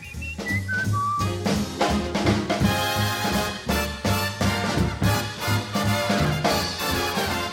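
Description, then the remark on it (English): A person whistles a bright, birdlike melody of quick sliding notes over a loud, lively dance band, the whistling standing out clearly at the start before blending into the brassy music. “Oh, he whistles pretty. Yeah, like a bird.”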